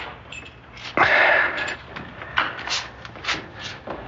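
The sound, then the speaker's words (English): A door is lifted and pushed open with a sudden scraping, creaking surge, followed by a few softer bumps and shuffles. No one speaks. “If you lift it, it opens easy.”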